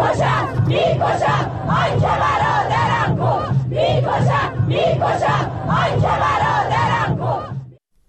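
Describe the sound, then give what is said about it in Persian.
A large crowd at a funeral procession in Hamadan, Iran, chants slogans against security forces in unison, loud and rhythmic, the phrases rising and repeating in waves with a steady low hum beneath, before cutting off abruptly at the end. “و سرانجام همین که ویدیوها و تصاویر منتشر شده در شبکه‌های اجتماعی نشان می‌دهد روز پنجشنبه در مراسم تشییع پیکر 2 شهروندی که بر اثر تیراندازی نیروهای بسیج در همدان کشته شدند، شرکت کنندگان شعارهای علیه نیروهای امنیتی سر دادند.”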